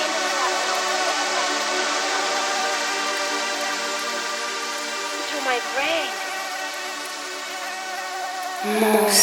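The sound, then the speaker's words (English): A continuous mosquito whine drones steadily for about nine seconds, its pitch wavering briefly midway before a louder, brighter buzz at the very end. “Mosquito Boy. Mosquito bite.”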